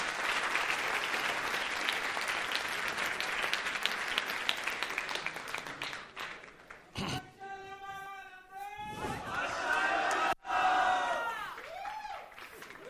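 An audience at a course session applauds a speaker, clapping steadily and loudly for several seconds, a dense wash of applause that then thins out as a few raised voices call out and cheer over the last scattered claps.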